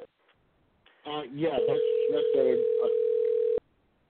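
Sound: phone ringing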